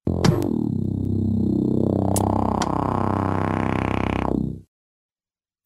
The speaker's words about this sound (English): But a show that I never skip, if I can help it, is Regular Show, my favorite cartoon in the world right now. Let's check out the intro theme to that.